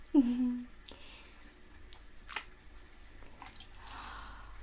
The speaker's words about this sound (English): Is this bubbles? The guards would tell me stories about these. They make the water make a crunch noise.